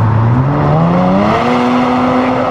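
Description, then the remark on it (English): A car engine revs hard as the accelerator is pushed right to the floor on a test drive, its loud whine climbing steadily in pitch for a couple of seconds before holding high, with no voices. “Yeah, put your foot in it and see what she does. Put it right to the floor.”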